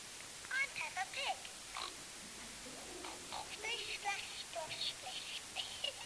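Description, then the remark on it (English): A small, tinny voice from a talking Peppa Pig toy chatters faintly in short bursts, mixed with squeaky pig-like oinks, against a quiet background hiss. “Now, she's supposed to speak, but I don't know if you'll hear her.”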